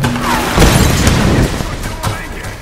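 Video game combat: a heavy booming explosion rumbles through the first half, followed by several sharp gunshots cracking out in quick, irregular succession over a steady background din.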